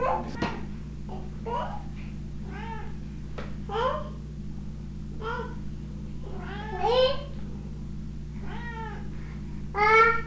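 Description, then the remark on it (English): A cat meows repeatedly in short, rising-falling cries, several in a row with brief pauses, fairly clear over a steady low hum. “Is that his meow?”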